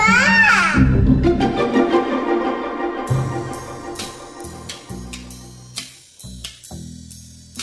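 A child cries out "Papá!" in a high, wavering wail near the start, then the crying gives way to clattering and scattered sharp knocks and clicks.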